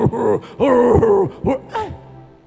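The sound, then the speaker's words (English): A voice imitates loud snoring with four throaty, groaning bursts, two long and two short, fairly loud, trailing off into quiet at the end. “The way you can open your mouth, the way water can be dripping from your mouth, the way you can be snoring like an elephant that is angry.”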